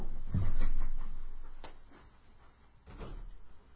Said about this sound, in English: Let me open the door.